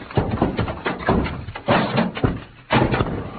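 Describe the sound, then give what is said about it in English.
Stacked heavy packing cases, bumped against, topple over in a tumbling series of heavy, booming thumps and clatters. Several loud impacts arrive in quick succession, with no voices over them. “Santos, those cases hit Pancho and knocked him out.”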